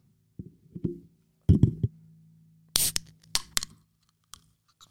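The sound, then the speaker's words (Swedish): A fizzy drink is opened: some low handling thumps and rustles, then a sharp burst of hiss, followed by a few faint, scattered crackles of bubbles. No one speaks. “Man hör till och med bubblorna.”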